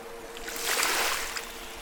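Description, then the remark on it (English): Soft water rippling and lapping, swelling gently in the middle before settling back, heard alone at a fairly quiet level with a faint steady hum underneath. “A ripple in the water catches your attention and your heart beats with excitement.”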